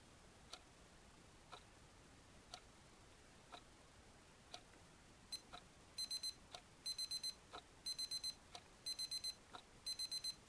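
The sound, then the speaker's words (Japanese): A camera self-timer, set with the shutter dial for 1-second and half-second exposures, counts down: steady soft ticks about once per second, then halfway through quick bursts of high electronic beeps repeat faster, clear. “またダイヤルを3つ回してタイマーで移せるようにして1秒と2分の1秒ピント構図をできたら確認してください。”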